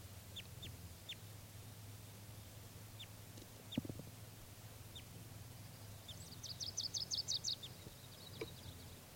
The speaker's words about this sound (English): one of the birds came back, and this, I think, a female. That's her. This is the wild bird.